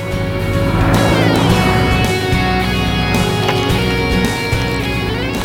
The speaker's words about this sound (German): Lange Stunden sitzen wir auf dem Motorrad.